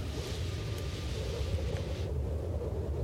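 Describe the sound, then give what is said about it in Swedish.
A steady, rushing wind effect with a low rumbling roar and a hissy upper layer that fades out near the end, continuous and fairly loud with no voices. “Vindljud.”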